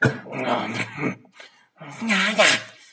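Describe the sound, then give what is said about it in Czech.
A person imitates a dog, making two fairly loud bursts of growling and whimpering noises separated by a short pause. “Pejsek!”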